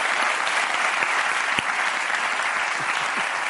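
An audience claps steadily for a few seconds, a dense, even patter of many hands with a few sharper individual claps standing out, and no one speaking over it.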